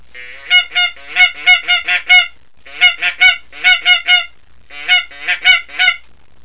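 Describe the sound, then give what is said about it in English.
A baby Magnum goose call blown in quick bursts of loud, reedy honks, several notes in a row with short pauses between groups, clear with no talking. “Here's the baby Magnum goose call.”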